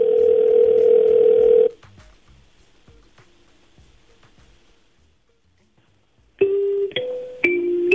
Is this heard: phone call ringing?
yes